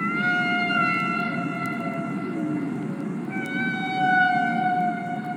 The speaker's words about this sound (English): And then, leaning forward and putting the headphones on my head, he said, "I think these are humpback whales," and shouting to be heard over the roar of this thing. And what I heard completely blew my mind.